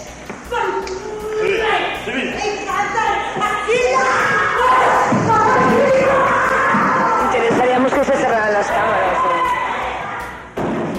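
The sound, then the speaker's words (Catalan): A loud, chaotic uproar in a courtroom at the end of a trial: the victim's relatives shout and wail at the accused over one another almost nonstop, with occasional thuds and bangs, before the noise abruptly drops near the end. “I es produeix una situació violenta, algun crit, algun ploro, i per tant ja com era el moment del final de judici es va desalojar la sala”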